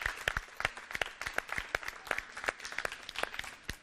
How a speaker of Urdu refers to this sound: تائید کے لیے زوردار تالیاں.